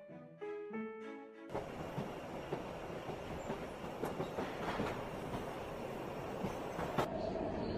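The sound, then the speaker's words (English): A subway train rumbles steadily along the rails to Cat Town Station, loud, with scattered clacks and rattles over the roar, after a brief melodic chime at the start. “Let's go down to the subway and pick up Mr.”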